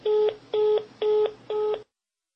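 Four short electronic telephone keypad tones beep in a steady, even rhythm, clear, with no voices, then silence, as a man dials a telephone to call again.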